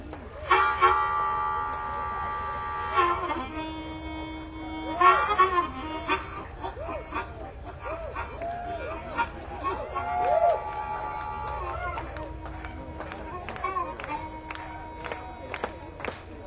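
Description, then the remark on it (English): An imitation of a departing train: long wailing whistle-like tones bend and repeat over a steady, rhythmic chugging pulse that speeds up and grows busier, with faint crowd noise underneath. “Here's the way that train sounded as it took John away.”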